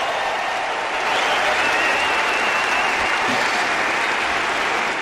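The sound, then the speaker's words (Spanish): A large stadium crowd on Court Philippe-Chatrier at Roland Garros 2022 in Paris applauds and cheers Rafael Nadal's 6-2, 6-2, 6-2 first-round win over Jordan Thompson: a sustained, dense roar of clapping that swells slightly after the first second and holds steady and loud throughout, with no talking over it. “Y esta es la ovación de la Chatrier.”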